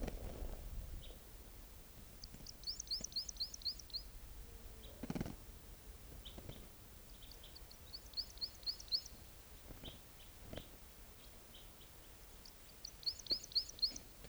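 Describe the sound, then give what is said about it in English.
A bird, just collected and to be logged as number 650, sings three short bursts of rapid, high-pitched trilled notes, separated by pauses, over a quiet background with faint low rumble and occasional soft clicks. “Here's that bird.”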